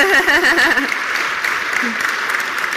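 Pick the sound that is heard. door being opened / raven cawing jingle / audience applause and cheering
audience applause and cheering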